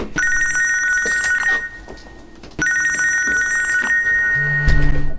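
A mobile phone rings loudly, two long electronic ring bursts separated by a short pause, with a low buzzing hum starting near the end.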